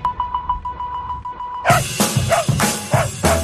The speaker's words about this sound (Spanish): Nos acompañan a todas partes y con sus ladridos y el movimiento de la cola nos dicen muchas cosas.